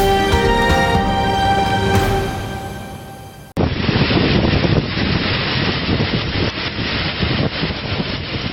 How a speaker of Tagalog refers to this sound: Wow, Typhoon Ursula. Wind is too strong, guys. Really strong.